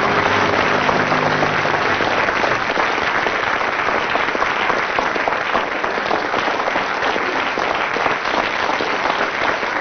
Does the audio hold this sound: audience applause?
yes